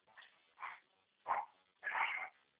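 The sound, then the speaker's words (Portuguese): A dog gives four short, muffled barks and whimpering yelps, spaced unevenly, the last one longer and whinier. It sounds faint, with no one talking. “Pode entrar aí, Tatu? Tem cachorro da hora.”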